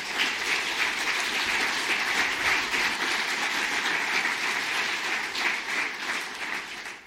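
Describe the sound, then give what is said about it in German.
Sustained applause from a large audience at a conference on women's health, thanking the BZgA staff for preparing the conference: a dense steady wash of many hands clapping at even loudness for about seven seconds, tapering slightly at the end, with no voices. “Und ich denke, das ist ein Applaus wert.”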